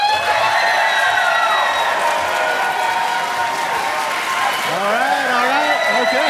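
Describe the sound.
A large crowd applauds steadily and loudly throughout, with dense clapping layered under shouts, whoops and cheering voices that rise near the end.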